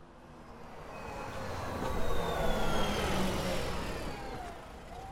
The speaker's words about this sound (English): Oh no! Here comes Gus in his bumpy red bus.